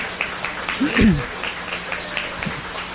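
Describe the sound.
An audience applauds after a presentation, a dense, steady patter of many hands clapping throughout, with a short voiced cheer rising briefly near the middle.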